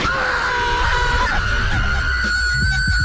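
A long, sustained scream holds one steady high pitch for about three seconds at full volume, with no break and no other voices.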